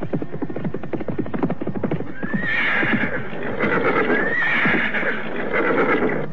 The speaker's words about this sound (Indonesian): mendadak dari luar terdengar derap kuda memasuki halaman kesatriaan.